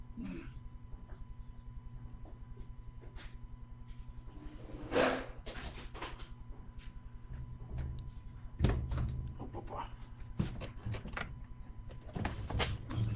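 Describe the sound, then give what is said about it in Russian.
A door is pushed shut with a soft thud amid scattered handling and shuffling noises, over a steady low electrical hum; nobody speaks. “Я, блин, дверь не закрыл.”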